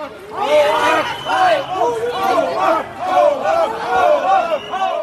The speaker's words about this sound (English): Other national and regional politicians joined Mr. Scholz in paying tribute to the victims. But as they left, there were angry shouts from the crowd.